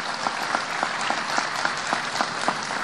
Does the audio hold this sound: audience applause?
yes